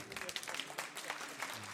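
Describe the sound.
An audience at the presentation of a Newcomer award applauds in a steady, dense patter of many hands clapping together, fairly quiet overall, with faint murmuring voices mixed underneath.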